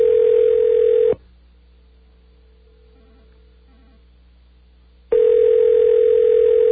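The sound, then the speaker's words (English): Ringback tone on a phone line, calling a phone inside the Washington Monument on a Saturday night: a loud, steady electronic purr sounds for about a second, falls silent for four seconds with only faint line hum, then starts again. No one speaks. “Somewhere inside the Washington Monument, a phone is ringing right now.”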